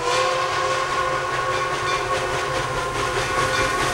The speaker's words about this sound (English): Later, a steam engine pulling one car chugs to a stop.